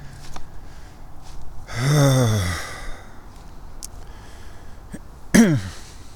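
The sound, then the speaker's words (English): A voice imitates throat hacking and gagging: a drawn-out, breathy, strained groan sliding downward in pitch, a pause, then one short, sharp retching burst. “More hacking, more gagging.”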